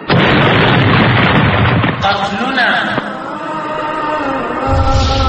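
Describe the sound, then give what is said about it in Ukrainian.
A loud explosion as a young fighter in traditional Afghan clothing crashes into an American convoy in a suicide attack, a heavy roar rumbling for a couple of seconds with a large column of smoke, then fading into lingering noise with raised voices shouting in the background. “Камера фіксує вибух і великий стовп диму.”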